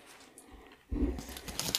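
After a near-silent start, foil wrapping on a chocolate Easter egg crinkles loudly, a dense run of crackly, rustling bursts with brighter sharp snaps toward the end.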